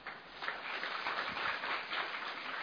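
A crowd claps steadily throughout, a dense, even patter of many hands with no voices, moderately quiet, as an audience applauds in welcome at Pandav Bhavan.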